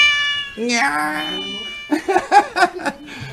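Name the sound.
cat meowing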